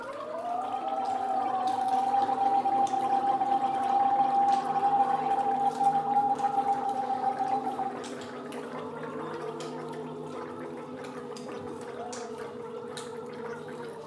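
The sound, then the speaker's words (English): Three vocal soloists gargle and make sounds with water in their mouths as part of a performed piece at a university, one holding a steady pitched note for several seconds before the layered gurgling settles into a lower, quieter drone. No speech. “And then we have 3 vocal soloists doing things with water in their mouth, like making sounds with water in their mouth.”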